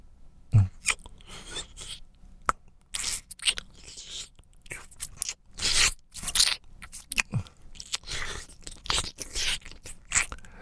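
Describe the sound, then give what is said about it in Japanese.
Wet licking mouth sounds: irregular smacks, clicks and slurps with soft crackly bursts, moderately loud, continuing for about ten seconds with no talking. “じゃあ、舐めるよ。”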